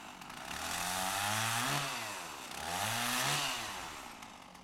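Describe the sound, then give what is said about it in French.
A chainsaw roars steadily, its engine pitch rising and dipping in two long surges as it bites into wood, loud with no voices. “Mon mec m'offre une tronçonneuse. On coupe du bois.”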